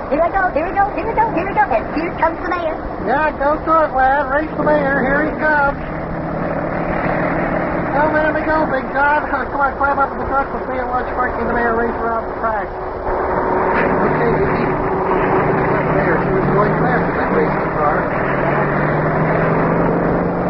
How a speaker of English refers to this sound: Now, press down on that gas pedal there. Press down on that. Yeah, I am. Okay, I'm pushing down the gas pedal. Okay, here we go. Hey, the motor started.